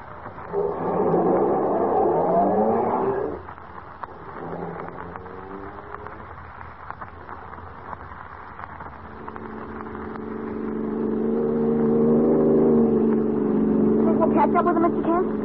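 A car engine revs loudly at first, then drops to a lower drone before building again into a steady, sustained roar as the vehicle speeds along.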